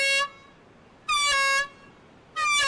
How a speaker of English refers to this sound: This is just a test, but about 50 times a year, this horn and an even louder siren signal an actual alarm. It means a great white shark is swimming toward shore.